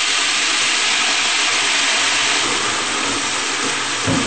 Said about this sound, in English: I'll use half a cup of the stock of water with the stock cube. And just pour it through.